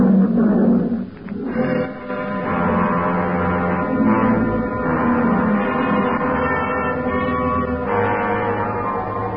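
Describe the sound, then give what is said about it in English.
An old Liberian lion roars loudly, a deep, rumbling, drawn-out roar that carries on for several seconds with rough, growling texture and no voices. “Nobody answered me but an old Liberian lion.”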